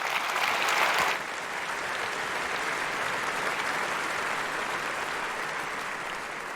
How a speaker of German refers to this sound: Großen Applaus für Thorsten Schröder und Ulf Burmeier.